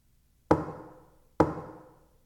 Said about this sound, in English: knocking on windows to get a few laughs?